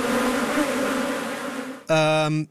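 A steady, droning buzz of bees hums for a couple of seconds, then one sharper, louder buzz flares up before cutting off abruptly. No voices.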